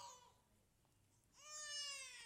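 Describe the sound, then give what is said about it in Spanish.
A baby in a church audience cries out during a sermon, a brief wail cut off at the start and then a longer, steady, high-pitched cry after a short pause, fairly faint. “Y llorarás así como ese bebé.”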